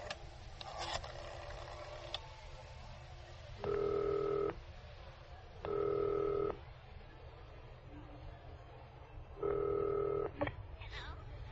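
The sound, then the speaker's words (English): A wall-mounted telephone being dialed, with three steady electronic tones, each lasting under a second and separated by pauses, over a low background hum, with a few faint clicks near the start. “I have to make a call. Where's the phone? Oh, right behind you on the wall, bud.”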